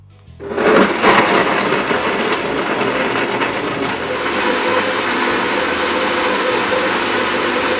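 A blender set on high whirs loudly for two minutes as it grinds one cup of soaked almonds with four cups of water, starting with a gritty rattling burst and then settling into a steady, high-pitched roar. No one speaks.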